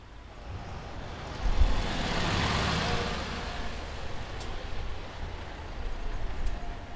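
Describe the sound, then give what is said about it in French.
Cars drive past on a road, a broad whoosh swelling and fading as vehicles pass, with a steady low rumble of traffic underneath and no voices. “Les voitures. Car. Machina.”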